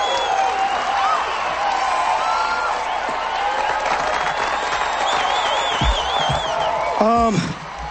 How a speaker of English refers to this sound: The band members mistake Mike for Al as the candidate, and they drag him on stage to the screaming approval of the hopped-up audience.